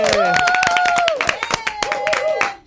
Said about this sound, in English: Got a single clap. That's what it sounds like at our shows. Give Bobby a big round of applause.